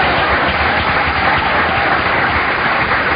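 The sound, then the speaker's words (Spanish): An audience applauds steadily for Christ during a sermon, dense clapping filling the room at a constant loudness for the full few seconds, with no voices standing out above it. “Dale un aplauso a Cristo.”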